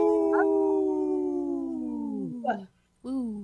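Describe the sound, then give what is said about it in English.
Several people howl together in imitation of wolves, in three-part harmony, their voices blending in a long, drawn-out, slowly falling howl; after a brief silence, another howl begins. “Yeah, it was the harmony, the three-part harmony was awesome.”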